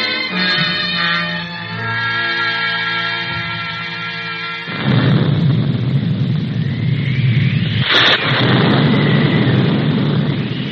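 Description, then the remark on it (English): Sustained tonal music gives way halfway through to a loud, deep rolling rumble of thunder from an oncoming storm, with a sharp crack partway in, and the roar continues to the end without any talking. “Ah, thunder. So Dennis was right. We are going to get a storm.”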